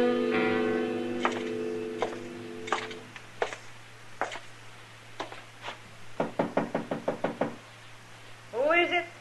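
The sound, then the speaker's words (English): Knocking on a door by a marshal: a few scattered raps, then a quick, insistent series of firm knocks, with a low steady hum underneath and a faint voice-like sound at the end. “Open the door, Dillon.”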